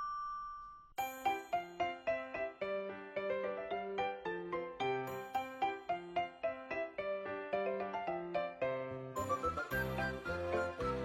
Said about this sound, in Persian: میشنوی صدا زنگ در است، بخیالم که مادرت و سرگانم آمدن.